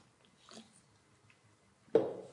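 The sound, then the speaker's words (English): A quiet sip from a drink with faint mouth and lip sounds, then a louder, breathy burst near the end as the drinker finishes. No one speaks. “So with that said, I shall take a little sip.”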